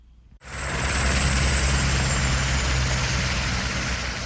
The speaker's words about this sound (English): From the police helicopter hovering above, it looks like a normal, everyday rush hour traffic jam on a highway on the outskirts of the port city of Durban.